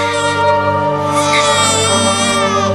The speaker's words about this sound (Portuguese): O primeiro choro é um marco. A partir deste momento, a laringe do bebê, ou caixa vocal, se tornará uma das partes mais ocupadas do seu corpo.